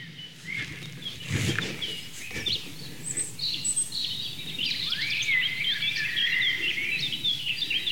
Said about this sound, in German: Das helle, amselartige Flöten, schnell vorgetragen von der Mönchsmücke.